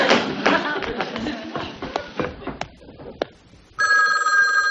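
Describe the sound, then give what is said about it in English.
A jumble of tapping and clattering fades down, then a loud telephone bell abruptly starts ringing, steady and bright, filling the last second. “If the forest will please excuse me, Mother Nature is wanted on the phone.”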